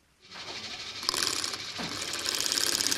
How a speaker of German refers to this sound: steht an der Ständerbohrmaschine und schiebt ein Blechteil unter den Bohrer. Also das sind jetzt Seiten für mein Radio.